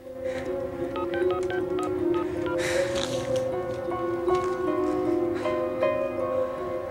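A bedside telephone keypad being dialed: a quick series of short electronic touch-tone beeps, each a different pitch, over a steady low hum, with a brief rustle partway through.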